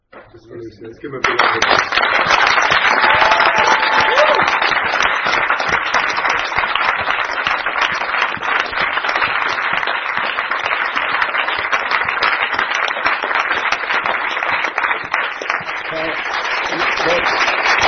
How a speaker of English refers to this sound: First of all, we should give a really big round of applause to the collective translators.